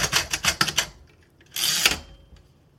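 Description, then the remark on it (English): A Perkins Brailler typing Braille clacks through a quick run of sharp, loud mechanical keystrokes, pauses, then gives a longer ratcheting clunk like a carriage or line advance. “One sound I wanted to add in, though this device is an efficient means of creating Braille, the Perkins Brailler is very loud.”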